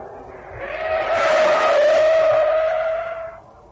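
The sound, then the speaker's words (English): A car's tires squeal in a long, loud skid, a sustained shrieking whine that swells and then fades over a few seconds, with engine rumble underneath and no voices. “After all, I nearly had one yesterday with the car.”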